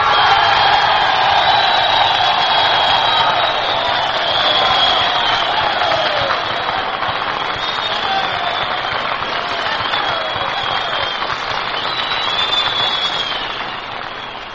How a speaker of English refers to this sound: Well, the men gave you quite an ovation, Major Carl.